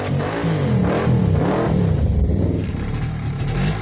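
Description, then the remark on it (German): A two-stroke MZ 250 motorcycle engine revs loudly, its pitch sweeping up and down in several throttle bursts before settling into a steady, rough idle. “Für ganz arme Willis. MZ 250.”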